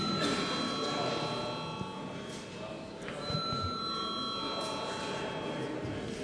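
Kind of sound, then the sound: signal or alarm, parliament chamber bell rung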